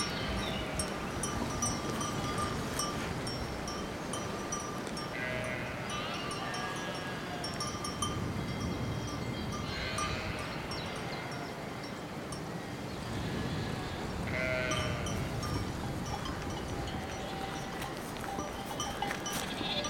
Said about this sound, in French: Le vent des sonnailles rebondit partout dans l'espace.